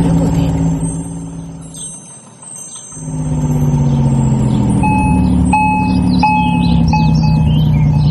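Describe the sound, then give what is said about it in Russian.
A street watering truck's engine rumbles steadily, dipping briefly before surging again, while short electronic beeps and light bird chirps come through over the motor. “Наша поливальная машина готова. Давай посмотрим, как она работает.”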